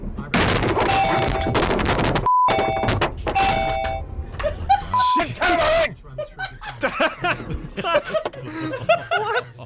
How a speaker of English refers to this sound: So the kangaroo attacks your car. It's captured on dash cam. Here's what it sounds like when a kangaroo attacks your car.